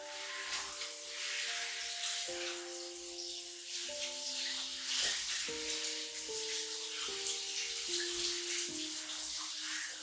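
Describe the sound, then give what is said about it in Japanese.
Water runs steadily from a tap while dishes are washed, a continuous bright hiss that surges a little now and then, with soft sustained tones shifting underneath. No one speaks. “あ、洗い物やっとくからシャワー浴びておいでよ。”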